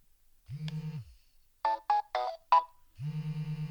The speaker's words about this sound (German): Okay, da war jetzt eine Vibration und ein Tusch und jetzt vibriert er immer noch. Ja, das ist der Hinderniswarner. Wenn ich natürlich da direkt das Gerät vor mir halte, dann erkennt er mich auch als Hindernis.